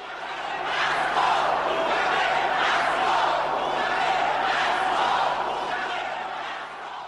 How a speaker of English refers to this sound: As you can hear, his address was repeatedly interrupted by jeering and chanting by the crowd, demanding that first President Robert Mugabe must step down.